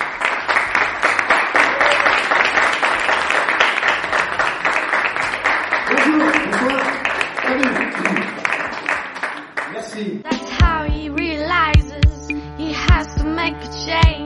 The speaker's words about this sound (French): Mesdames et messieurs, merci d'applaudir Edouard Montout.